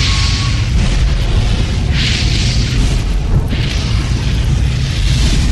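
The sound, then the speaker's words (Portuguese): A loud, sustained roaring blast like a burst of fire, with deep rumbling low end and surging hissing crackle that swells twice, continuous with no talking. “Então o Senhor enviou fogo.”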